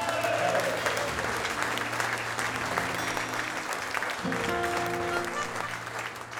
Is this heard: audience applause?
yes